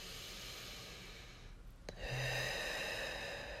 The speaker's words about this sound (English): So this is where, like, magic works for me. you do this breathing technique